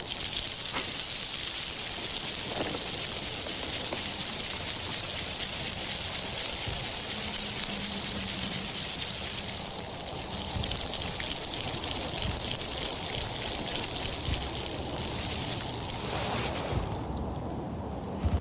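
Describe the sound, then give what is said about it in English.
A leatherwood shrub, coated in ice after freezing rain, being shaken, giving a steady, dense crackle of tiny clicks and tinkles much like rain pattering, continuing at an even level throughout with no voices. “that was the sound of this poor ice-covered bush being shaken around a little bit”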